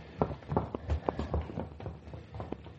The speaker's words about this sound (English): She left. I watched her clatter down the stairway.